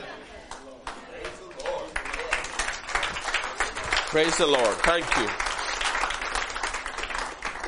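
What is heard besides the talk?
audience applauding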